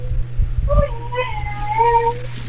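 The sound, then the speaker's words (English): A dog named Jackpot lets out a drawn-out, high-pitched whining howl that wavers and bends in pitch for about two seconds, with a steady low hum underneath. “I love my dog more than any of you, so I'm going to let him do it”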